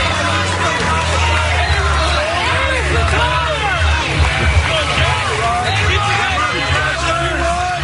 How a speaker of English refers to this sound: But the fans were really letting Aaron Rodgers have it when he left the field. ABC was letting him have his moment, leaving for probably his last game, and one fan yelled, "Aaron, it's time to retire," if you listen carefully.